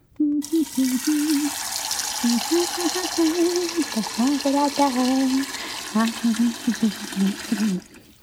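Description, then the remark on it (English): Water runs steadily from a tap into a pot, to be boiled for making a stew, for several seconds, a continuous rushing hiss, while a person talks over it almost the whole time. “Well, to make a stew, you must first boil the water.”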